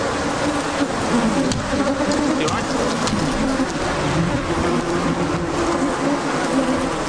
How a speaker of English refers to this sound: The air is full of bees. It's like I'm swimming in bees, crashing into my suit, trying to sting me. The noise and number of them is really quite frightening.